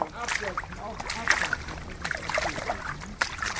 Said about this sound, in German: Vorsichtig Schritt für Schritt auf dem ungewohnten Untergrund. Seltsames Gefühl, durch die Pfützen zu gehen auf diesem weichen Boden. Er ist voller Dellen, in denen sich das zurückgebliebene Wasser sammelt.